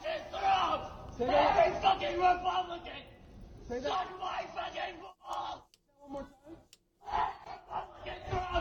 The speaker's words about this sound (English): Yeah, you can't even understand what he's saying. Nope. He's just screaming, okay? He's screaming. He's a screaming fool. Repeatedly.